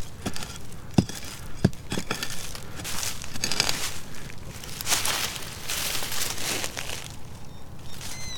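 A hand-forged hand pickaxe, a special tool, chops into soil, with a few sharp strikes followed by steady scraping, crunching and crumbling of dirt at a moderate level, and no voices.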